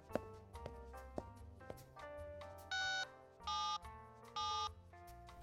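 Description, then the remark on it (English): A few sharp clicks and short electronic tones like keys being pressed on a phone as 911 is dialed from a shoe store at a mall, followed by three evenly spaced, buzzy ringing bursts, fairly loud, with no talking. “I need to make a quick phone call, but I'll be right back.”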